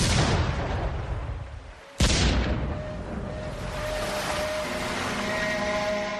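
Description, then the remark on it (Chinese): The explosion of the US warship Maine, sent to Cuba, which blew up and sank one night in early 1898: a dense rumbling roar cuts out briefly, then a sudden loud blast bursts in and settles into a sustained heavy roar with a steady mechanical hum beneath it. “1898年年初的一个晚上，缅因号军舰发生大爆炸，军舰沉没了。”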